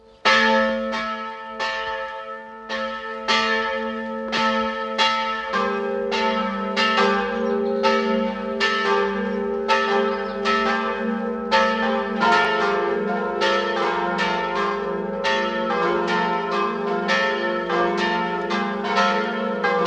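The bells of the parish church of Werfenweng, Salzburg state, ring together at 12 noon in a continuous, overlapping peal, strikes coming in a steady rhythm with rich ringing overtones that hang between hits. Loud, with no voices.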